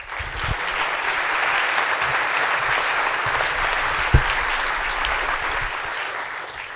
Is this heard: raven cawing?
no